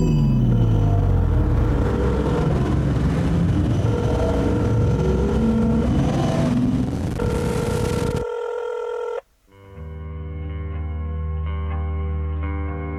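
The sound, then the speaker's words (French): A loud sci-fi time machine launch and teleportation effect: rumbling, roaring noise with warbling tones, then an abrupt cut to a humming electronic drone, a split-second dropout, and a steady buzzing tone. No one speaks. “Attention, départ imminent. J'ai voyagé 25 ans dans le futur. A plus, les gars, vous m'attendez pas ? Téléportation.”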